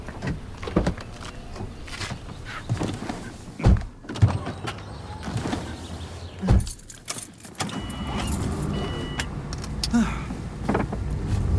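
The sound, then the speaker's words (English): Someone climbs into a car with rustling and jingling keys; two heavy car doors thunk shut a few seconds apart, leaving the muffled hush of the closed cabin. “In the car? Okay.”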